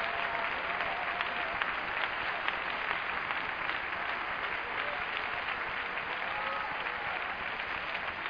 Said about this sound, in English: Please clap your hands and give praise to the Lord.